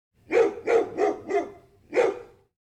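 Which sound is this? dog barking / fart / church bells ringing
dog barking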